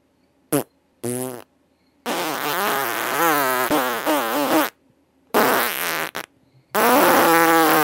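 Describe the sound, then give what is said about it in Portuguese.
A string of loud farts from a fart contest participant from Manaus: two short blasts, then a long wavering, buzzing one, followed by more drawn-out, sputtering farts with brief pauses between them. “Tá louco, que catinga? Esse não dá de aguentar mesmo.”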